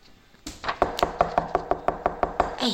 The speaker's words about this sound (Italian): Sentite questo rumore? Ma chi bussa? Scusi? C'è qualcuno che bussa qua dentro? Ma chi c'è?